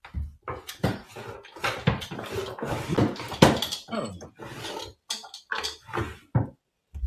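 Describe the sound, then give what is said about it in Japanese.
Someone rummages through a drawer, with a busy run of clattering knocks, scrapes and rattling objects in irregular bursts, and a voice murmuring briefly in the middle. “ちょっと待って、引き出しで。”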